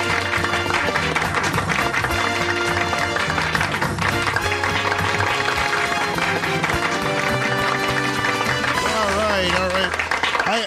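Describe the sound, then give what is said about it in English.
A large audience applauds loudly and continuously, the dense clapping blending with music playing over it and swelling about halfway through, with a wavering melodic line rising near the end. “I love that little swell the applause has there, right middle, about halfway through.”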